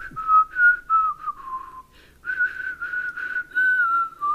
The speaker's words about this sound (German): Die Lippen werden befeuchtet, dann ist mit dem Pfeifen leichter, ich weiß.